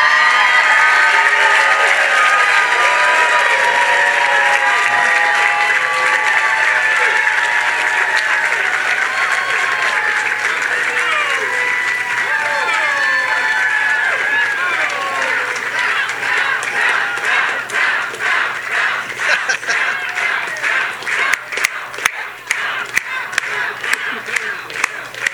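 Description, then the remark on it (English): A large crowd at a South Carolina governor's election campaign event cheers and applauds enthusiastically, with loud, sustained clapping and shouting voices throughout, the applause growing more distinct and rhythmic toward the end. “This is such an enthusiastic crowd that you just don't see every day.”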